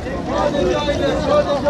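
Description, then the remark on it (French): Passenger ferry ride ambience on a boat from Istanbul to Kinaliada, one of the Princes' Islands: a steady engine drone with rushing water and wind, and a murmur of many people chatting in the background, continuous and fairly loud throughout. “On s'éloigne un peu d'Istanbul aujourd'hui, on a pris le bateau.”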